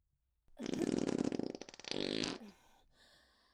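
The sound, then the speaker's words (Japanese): A long, loud fart lasting about two seconds, rapidly sputtering and flapping before trailing off into a soft hiss. No one speaks. “ほら、もう一発出るよ。”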